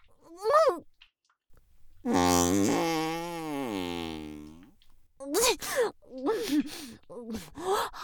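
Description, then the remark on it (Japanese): A long, drawn-out buzzy fart lasting a couple of seconds, its pitch wavering, between short breathy vocal sounds like gasps and sighs. “おなら止まらないわ。”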